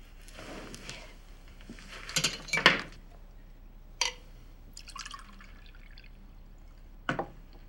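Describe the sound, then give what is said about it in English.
Water is poured into a glass, splashing and trickling in short bursts, with a few light clinks of glass in between, moderately quiet, with no one talking. “Do you have any water? You're supposed to have water for your patients.”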